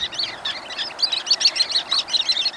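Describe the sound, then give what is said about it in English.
A busy chorus of high, thin shorebird calls, many short piping notes overlapping in quick irregular bursts, clear with no voices. “of shorebirds, their kinship with the distance and swift seasons, the wistful signal of their voices down the long coastlines of the world, make them, for me, the most affecting of wild creatures.”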